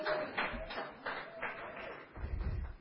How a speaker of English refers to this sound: It's very quiet here today. It's all right, you can have fun. You can clap and cheer and say, whoo, that's pretty good.